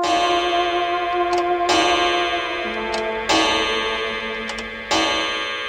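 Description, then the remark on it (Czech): A clock gong at the Hotel Carlton strikes half past one, four times at a slow, steady pace. Each rich, ringing chime sustains and overlaps the next, with no voices present. “V hotelu Carlton právě odbyla 1:30. Jakoby tenhle gong dal do pohybu celou lavinu událostí.”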